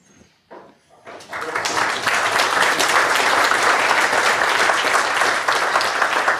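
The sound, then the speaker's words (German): An audience bursts into sustained applause at the end of a technical talk, before questions, after a brief quieter start, the dense clapping building within a second and staying loud and steady to the end, with no talking over it. “Ich würde sagen, vor den Fragen kommt der Applaus.”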